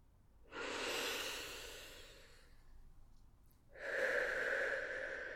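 deep breathing

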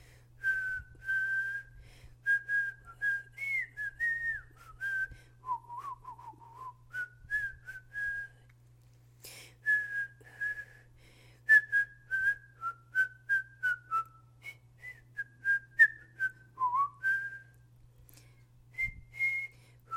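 person whistling a tune

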